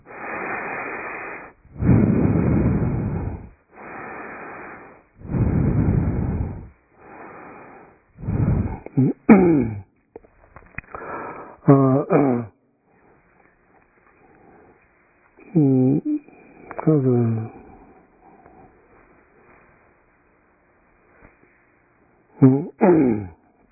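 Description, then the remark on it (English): A series of forceful, rushing breaths in a steady rhythm during a nine round breathing meditation, one of the six Narva yoga practices: about half a dozen strong exhales, then quieter breathy voiced sounds and pauses. “So this is called this nine round breathing meditations according to one of the six Narva yoga practice.”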